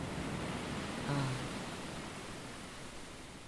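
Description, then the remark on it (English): Steady, hissing wash of ocean surf rolling onto a beach at sunrise with no people around, with a slight swell around a second in and a faint low tone briefly underneath; no voices. “Just sand and waves and a car.”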